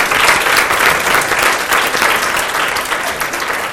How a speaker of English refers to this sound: And that was a tap of applause.